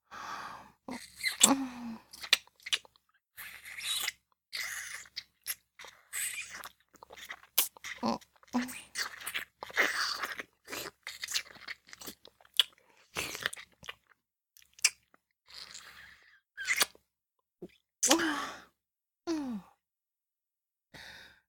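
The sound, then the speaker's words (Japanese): Wet, deep tongue kissing with irregular smacks and slurping mouth sounds, broken by soft breathy sighs and inhales, fairly quiet throughout with no talking. “大人の恋人同士のキスだ。舌と舌を絡ませて、粘膜と粘膜をこすり合わせて、ドロドログチョグチョに溶け合う。”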